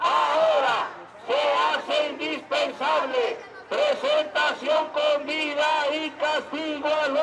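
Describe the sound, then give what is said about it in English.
Thousands of marchers chant in unison down Mexico City's grand boulevards in a light rain, demanding the students be returned alive; loud rhythmic shouted phrases rise and fall in steady bursts, with many voices blending into a dense, continuous roar. “In a light rain, thousands march down Mexico City's grand boulevards, chanting, "Now is the time to return the students alive and punish those responsible for this crime."”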